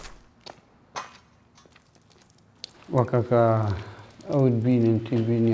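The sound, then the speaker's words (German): A few soft, scattered footsteps crunch slowly across a gritty floor as people walk into a ruined house of sandstone-coloured mud bricks with crumbling plaster and no windows, before a person starts talking over the faint shuffling. “Wir gehen hinein.”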